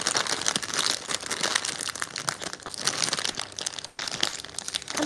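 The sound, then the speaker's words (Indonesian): Loud crinkling and crackling of a plastic instant ramyeon packet, beef mushroom flavour, being handled and pulled open, continuous for several seconds with a brief pause near the end, no voices. “Satu makan ramyeon. Beef mushroom.”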